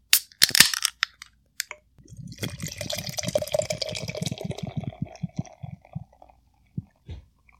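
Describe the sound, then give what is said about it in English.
A can of Bar and Grill beer from Roaring Table snaps open with a quick metallic crack and hiss, then a steady gurgling pour fills a glass for a few seconds before trailing off into faint drips. “Let's crack open Bar and Grill.”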